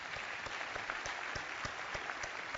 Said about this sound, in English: Let's applaud those grads again.